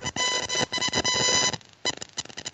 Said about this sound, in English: It sounds like we're doing a naval SOS beep beep beeping thing in the background.